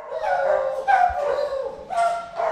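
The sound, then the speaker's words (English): Over 20 beagles, each in its own pen in a large room, recent arrivals from research labs, bark, yip and whine in quick, overlapping bursts, a noisy chorus of high, strained dog cries with no human voices. “In another building, there's a large room with over 20 beagles, each in their own pen, recent arrivals from research labs.”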